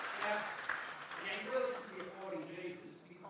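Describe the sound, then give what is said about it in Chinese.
An audience claps steadily for a few seconds for a person's light demonstration during a talk about Jesus. It is a dense, even patter of many hands, with voices murmuring and calling out through the applause. “这个技术不错吧，我们为他鼓掌。”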